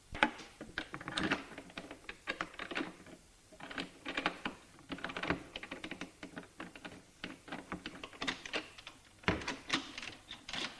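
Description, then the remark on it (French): A woman turns a key in a stubborn door lock, producing a long run of irregular metallic clicks and clacks at moderate volume, with no voices, as the mechanism turns and the door opens. “Il lui donne la clé, elle se penche, la met bien en face du trou et tourne.”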